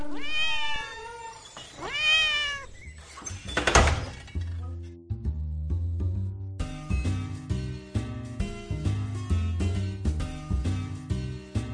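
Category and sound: animal, cat meowing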